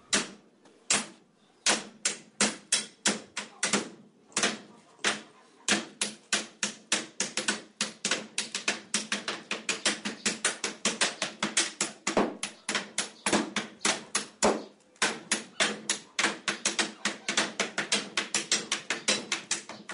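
A cooper in Iđoš near Kikinda, Vojvodina, Serbia, plays a barrel: rhythmic metal and wooden hammer blows ring out on the barrel's iron hoop, sparse at first, then a fast, steady patter of sharp, bright strikes with a musical beat, with no voices.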